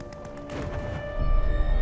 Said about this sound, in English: Well, here's another scene from the film. Blake and Schofield are watching in the distance three planes that are in a dogfight, not far actually from where they're standing.